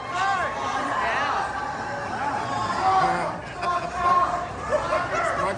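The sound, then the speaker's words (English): A large audience at a show murmurs and chatters continuously, with scattered voices hissing and shushing one another amid the steady babble, which swells briefly in the middle. “I love the crowd trying to shut each other up.”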